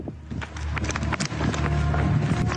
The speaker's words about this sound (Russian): Подожди, какие шаги?